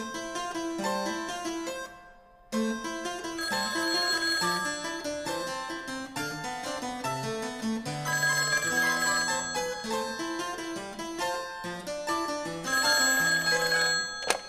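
A telephone rings loudly and steadily in bright, tonal bursts, with one short pause near the start and no voices over it.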